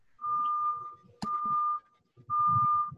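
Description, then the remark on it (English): Three long, steady beeps at a single mid-high pitch sound one after another with short gaps, over low muffled voices talking, and a sharp click just before the second beep. “you got some beeping in the background.”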